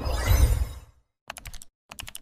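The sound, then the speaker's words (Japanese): Keys of a failed keyboard clack in two quick bursts of rapid taps, following a brief loud rushing noise that cuts to silence. No voices. “失敗キーボード。優しい目で見守ってください。”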